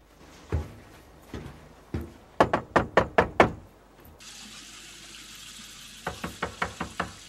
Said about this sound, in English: walks up some steps and knocks on the front door.